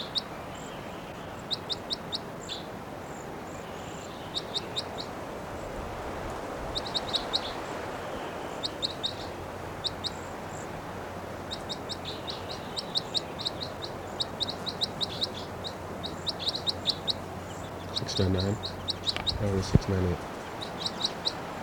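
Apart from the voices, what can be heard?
birds calling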